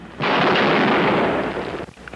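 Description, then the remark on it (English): A single loud rifle shot, fired by Charles Whitman from the clock tower balcony on the University of Texas campus in Austin, Texas, in 1966, bursts out as a harsh, broad roar that holds steady for over a second before cutting off sharply, with no voices. “It was recorded in Austin, Texas in 1966 after a lone shooter named Charles Whitman stormed the balcony of the clock tower in the middle of the University of Texas campus and started firing at random.”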